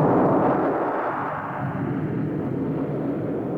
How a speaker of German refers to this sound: Die große Düsenmaschine des Präsidenten landet. Ich sage des Präsidenten. Und das ist jetzt Lyndon Johnson, der 36. Präsident der Vereinigten Staaten. Er ist an Bord des Flugzeuges vereidigt worden.